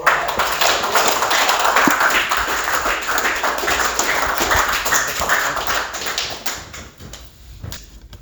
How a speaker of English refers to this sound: Let's give both of these great examples another round of applause.